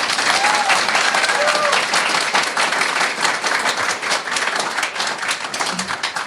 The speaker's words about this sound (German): Dafür vielleicht mal einen Applaus an das Nock, bitte.